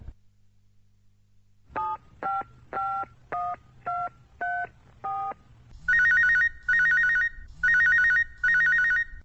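Seven quick telephone keypad beeps as someone dials the police, each a short two-tone note at a slightly different pitch, followed by four longer, louder ringing bursts with pauses between them. No one speaks.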